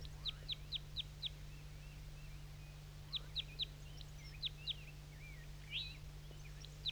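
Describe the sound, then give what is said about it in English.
A wild male crossbill calls from the top of a dead pine: short, sharp, high-pitched chips delivered in quick bursts of three to five, with a few softer warbled notes between, over a steady low hum and no talking. “So recording the crossbill again.”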